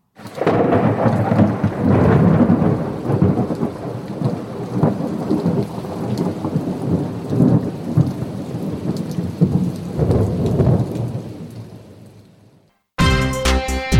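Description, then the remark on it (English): A thunderstorm: deep, rolling thunder rumbles over a steady wash of heavy rain, loud for about twelve seconds before easing off and cutting abruptly. “Might be a storm coming, and we need to get into a safe harbour for the night.”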